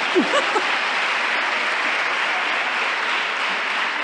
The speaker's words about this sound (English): This clapping is for Swami, huh?